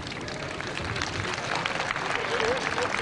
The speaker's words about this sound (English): When all was over, a spontaneous explosion of affection and approval, with cheering and flag waving, rippled through the crowd.